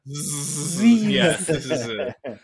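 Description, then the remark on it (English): A voice imitates snoring with a drawn-out, buzzing "zzz," the three-letter Scrabble word ZZZ, a steady hissy drone with a low voiced hum underneath, lasting about two seconds before a brief final burst. “Z-Z-Z, the sound of snoring, is a Scrabble legal word.”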